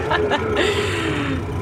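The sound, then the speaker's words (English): A loud, steady engine drone of an old truck fills the space, heavy and rumbling as heard from inside the cab on a morning route, with a faint muffled voice showing through the noise. “This is an old truck, so it's very loud and you know how it is.”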